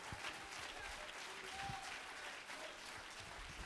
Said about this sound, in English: Oh, let's clap our hands unto him and bless his name.